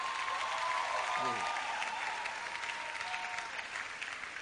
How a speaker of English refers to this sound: We're going to be commissioning the new church here, and we're going to be commissioning the new Dominion City in Ikeja. Both of them today. You better give God a clap.